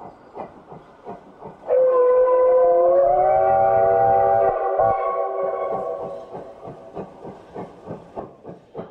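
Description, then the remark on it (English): A coal-fired steam locomotive chugs along a two-mile straight stretch of single track with steady, rapid chuffs, speeding up to 40, 50, 60 miles an hour. A loud, sustained whistle blows for several seconds partway through, rising slightly in pitch before fading back into the rhythmic puffing. “And so they were running a little behind, and so the engineer was putting the coal to her and picking up steam, flying down that straight stretch just as fast as he could, 40, 50, 60 miles an hour.”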